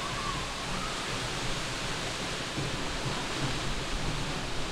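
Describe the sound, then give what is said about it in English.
A steady, dense roar of a waterfall's heavy water pouring down and splashing onto standing water, loud and continuous with no pauses, and no voices present. “I have never seen water like this, just the force of it as it comes down and hits the standing water.”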